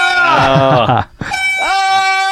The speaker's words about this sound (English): And we bought a mother flipping air horn. And we have no qualms with using it.